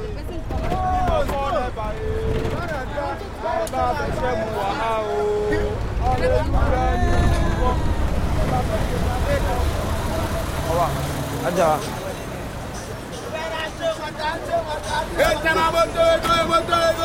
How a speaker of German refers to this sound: In einem klapprigen Bus fahren die Nima Flames zurück. Der Bus kriecht in einem langen Stau durch die ausgedehnte 2-Millionen-Stadt.